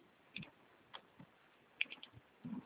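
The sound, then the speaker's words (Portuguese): A handful of soft, irregular clicks of keys being pressed on a computer keyboard as someone types in a CNPJ (Brazilian company registration number), spaced unevenly like slow typing, quiet against a faint background hiss with no talking. “Eu tô digitando CNPJ, não se integra, não existe.”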